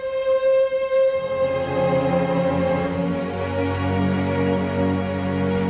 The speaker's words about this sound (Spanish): Lo que están escuchando es el adagio de Samuel Barber